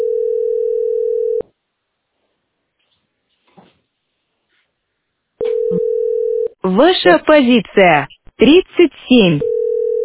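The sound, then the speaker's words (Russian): A steady, mid-pitched telephone tone from the speaker's other phone while trying to get through on a call sounds for over a second, cuts off into silence, then returns and gives way to a person talking. “Это у меня телефон другой, дозваниваюсь.”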